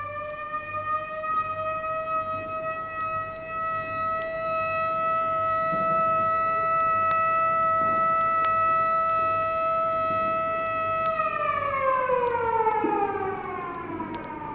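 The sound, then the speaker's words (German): A loud factory siren calling workers back to work after lunch holds a steady, sustained wail for about eleven seconds, then its pitch slides downward as it winds down near the end. No voices are present. “Und Schruck hören der Sirene.”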